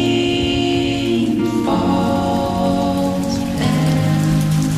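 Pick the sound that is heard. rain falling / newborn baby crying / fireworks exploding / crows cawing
rain falling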